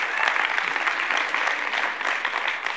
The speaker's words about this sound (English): I want to give you, you can clap, hey, it's a happy time.